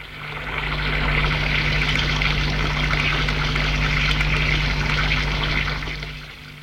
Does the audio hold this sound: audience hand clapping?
no